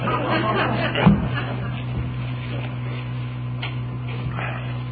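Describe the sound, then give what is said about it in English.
Air conditioning that has just been turned on runs with a steady low hum and a constant airy hiss, while faint murmuring voices and small shuffling sounds drift through the background. “late bulletin says we just turned on the air conditioning.”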